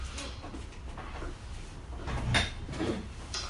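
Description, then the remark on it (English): A door is pushed shut with a short, dull knock and a brief rattle, preceded by soft shuffling and handling noises. “Am I close the door?”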